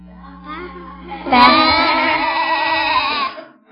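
A sheep lets out one long, loud, quavering bleat lasting about two seconds, preceded by a quieter low murmur.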